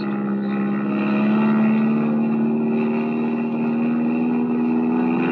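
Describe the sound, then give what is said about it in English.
The old single-engine motor of a plane runs steadily, a loud, continuous droning hum with a rough buzzing texture and a slight rise in pitch toward the end, with no voices. “Can you outrun him? With this old single engine, never.”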